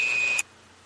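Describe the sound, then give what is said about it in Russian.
A juicer's motor in a kitchen whirs with a loud, hissing roar and a steady high-pitched whine, then cuts off abruptly less than half a second in, leaving near silence. “Нет, это соковыжималка на кухне.”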